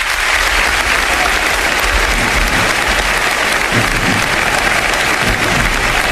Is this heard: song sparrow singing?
no